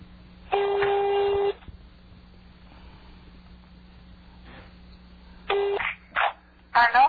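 A landline telephone call to a landline number in Rafah ringing through the line: one long ring burst, a pause, then several shorter bursts near the end, all heard over a steady low hum, with no one talking.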